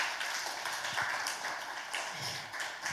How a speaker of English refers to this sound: Let us give a mighty hand clap to the worship team.